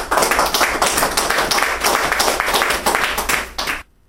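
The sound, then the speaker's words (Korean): An audience applauds steadily to welcome a radio testimony broadcast by a housewife in her forties about her husband, a dense crackle of many hands clapping at once for nearly four seconds before it cuts off abruptly into silence. “각각마다 우리 40대 주부는 어떻게 남편을 해보로 나오게 그 성공을 하셨는지 우리 한번 라디오 간증 방송을 듣고 해보로 나온 우리 남편이라는 주제 박수 환영합니다.”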